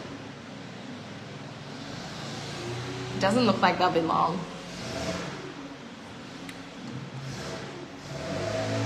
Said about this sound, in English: It's literally so loud, like the leaf blower is like right outside the window. So it's good that you guys can hear me, but it's like, feels like they may as well be in my brain.